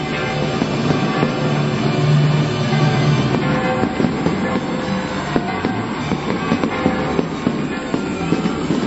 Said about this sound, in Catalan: Melchor, Baltasar i Gaspar estan rebent l'aplaudiment, l'ovació del públic. Estan acompanyats del castell de focs.